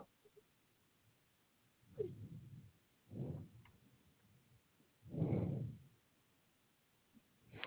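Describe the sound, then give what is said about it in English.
A female cat meows three times, the calls spaced a second or two apart, moderately loud, with a faint ticking in the background. “You're not getting no more liquid, little girl. Bumble cat, no more liquid.”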